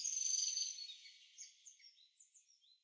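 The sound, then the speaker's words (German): Birds sing softly in a forest with no voices: a thin, high trilling phrase at first, then a scatter of short, bright chirps that gradually fade. “Sie liebte es, die Tiere zu besuchen und den Vögeln beim Singen zuzuhören.”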